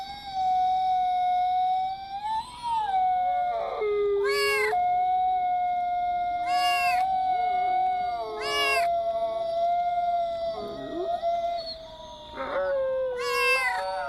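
A long, steady wolf howl holds throughout while cats meow repeatedly over it in short rising cries, loud, with no talking.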